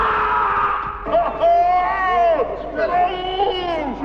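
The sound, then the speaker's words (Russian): A startled man lets out loud, drawn-out frightened cries in two long bursts, his voice wavering up and down, over a low background hum. “Удивленный Потап сначала цепенеет, потом поднимает крик, стреляет в воздух.”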